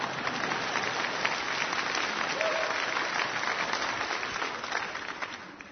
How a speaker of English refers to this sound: It's okay if you want to clap right now, because that was good news.